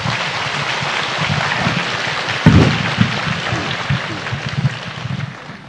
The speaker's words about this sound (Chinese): 我们还是先用热烈的掌声有请芒克老师来给我们分享今天以及他的往事，有请。